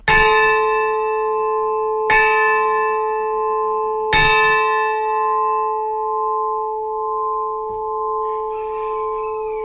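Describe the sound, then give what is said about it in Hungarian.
A church bell tolls three times at a steady, unhurried pace, each strike ringing out loud with rich overtones that hum on and slowly fade. No one speaks. “utánunk marad, hogy több generációknál, utódunknál készítünk valamit, ami itt fog szólni nekik.”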